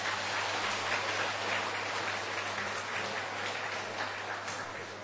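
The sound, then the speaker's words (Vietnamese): A Buddhist audience in Vietnam claps steadily to declare a shared vow, a dense wash of many hands sustained for several seconds at an even level, with a low electrical hum underneath and no voices. “Mặc dù không có mặt trực tiếp, chúng tôi cũng rất kính mong toàn thể quý Phật tử Việt Nam và đặc biệt là tại Tổ đình Chuẩn Quang cũng đồng tuyên bố phát nguyện làm công việc đó bằng một tràng pháo tay.”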